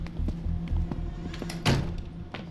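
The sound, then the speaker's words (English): A door opens and then shuts with a solid thunk as people head out, alongside a few softer knocks and clicks over a low, steady rumble of background noise. “I strap the ridiculous relic on my wrist, and we're out the door.”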